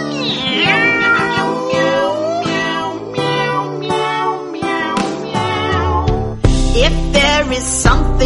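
Rising and falling meows repeat in quick succession, loud, over a steady musical backing with deep sustained bass notes.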